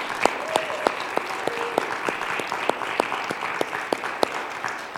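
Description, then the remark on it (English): Steady audience applause, a dense wash of many hands clapping at a lively, even level with sharper individual claps popping out throughout, no voices standing out. “Let's give them a great big hand.”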